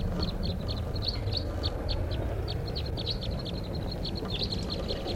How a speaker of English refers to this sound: Recording at 5:05 p.m. and there's a flock of wild crossbills here, about 8 birds, up in the top of a tall lodgepole right above camp.